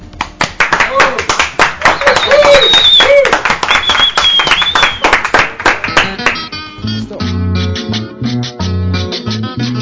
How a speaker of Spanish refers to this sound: Un aplauso para nosotros, pues.